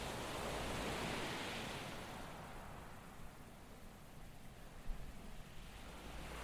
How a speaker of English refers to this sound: We pass warehouses and dozens of boats of all sizes, the shouts of sailors and dockers sounding above the slopping of the water and the rustling thud of filling sail.